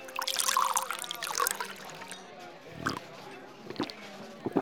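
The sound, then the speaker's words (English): Whiskey is poured into a glass, a bright liquid trickle that's strongest in the first couple of seconds, then fades into quieter clinks and a low murmur of voices. “Not that. Your finest whiskey.”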